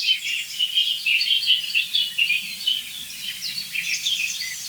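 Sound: song thrush singing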